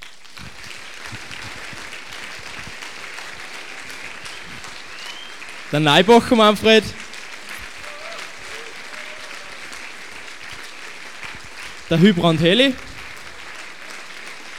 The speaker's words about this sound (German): Aber sie ist einem nicht weggeblieben und ich bitte euch nur mal um einen extra Applaus für die vier Solisten.